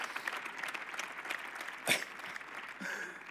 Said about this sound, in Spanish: Presidente de la Diputación, delegado del Gobierno, gracias por este espontáneo aplauso